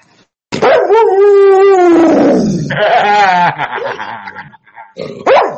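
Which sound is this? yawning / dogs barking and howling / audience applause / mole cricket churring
dogs barking and howling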